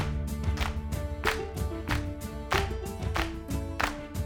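Steady, evenly spaced hand claps, sharp and fairly loud, keep a regular beat in a clap-along exercise over a background of sustained music with no one talking.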